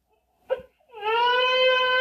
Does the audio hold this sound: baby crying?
yes